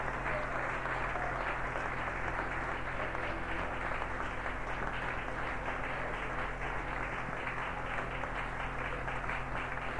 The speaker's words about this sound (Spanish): ¿Cuántos se atreven a dar un aplauso al Padre, al Hijo y al Espíritu Santo?